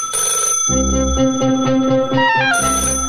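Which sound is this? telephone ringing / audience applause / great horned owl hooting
telephone ringing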